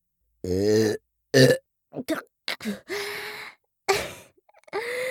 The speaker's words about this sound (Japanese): ちょっと失礼いたしますわね。はしたなくゲップが出ちゃいましたわ。もう一回。